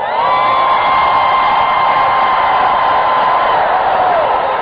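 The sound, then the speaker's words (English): A church audience with lifted hands screams together in a loud, continuous roar lasting several seconds, with one high voice holding a long sustained wail above the crowd. “Lift your hands and scream for 5 seconds.”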